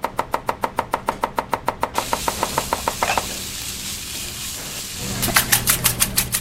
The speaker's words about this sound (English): A symphony of culinary sounds echo through the laboratory kitchen on the AB Tech campus in Asheville. 5 recently graduated student chefs are working around a big table, moving with precision, stepping in and out to tend a stove or grab an ingredient.